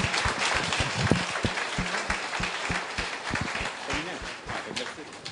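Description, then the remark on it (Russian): An audience claps steadily for several seconds to welcome the first group of a focus-group session, a dense, crackling wash of many hands with no pauses. Voices are faintly audible beneath the clapping. “Аплодисменты, пожалуйста.”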